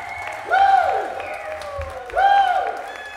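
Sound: audience applause and cheering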